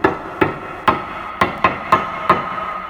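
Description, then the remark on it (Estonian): Seven sharp knocks on a heavy Ahja Moodulahi modular stove block from Põlvamaa, Estonia, which has a lot of iron inside and looks like concrete. The knocks come at an uneven pace, each a hard, dull clunk with a brief ringing tail, with no voices around them. “Et pigem ta ikka kolksub, jah.”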